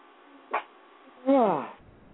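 A female dog gives a short, sharp bark followed by a longer, louder bark that drops in pitch, with a quiet background and no talking.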